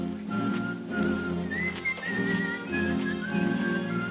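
A miner, his face dark with soot, whistles a wandering tune as the miners walk through town, clear, sustained notes rising and falling over a steady low rumble of background sound, with no one speaking.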